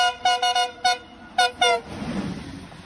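A passing train at a station platform sounds its horn at a person's request to the driver, a series of short, loud toots in an uneven rhythm, then the low rumble of the passing train carries on after the final blast.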